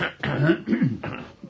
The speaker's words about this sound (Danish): Nu hoster vi af.